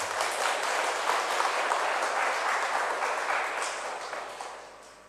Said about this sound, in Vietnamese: Xin cho một tràng vỗ tay chúc mừng.